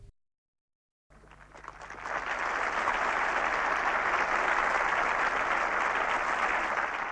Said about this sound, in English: There was a stunned silence, and then the cheering began.